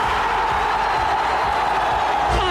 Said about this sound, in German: Aber was ist das, Cheerleader? Nein, das Volk jubelt Jesus mit Palmzweigen zu. Die gelten nämlich als besonders heilig.